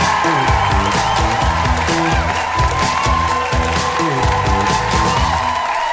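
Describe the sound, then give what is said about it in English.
A loud, sustained wash of audience cheering and applause with whoops at a stand-up comedy show as the next comedian is brought on, continuing steadily for several seconds over rhythmic music playing underneath. “Please give it up one more time for”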